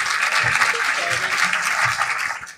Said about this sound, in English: So it just leaves us to give Alice an enormous round of applause.